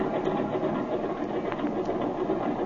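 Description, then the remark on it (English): A small propeller airplane engine drones steadily at high power during takeoff, a dense, continuous buzzing roar that holds an even, loud level throughout with no voices. “You take her off. And remember to keep on a little right rudder to allow for engine torque.”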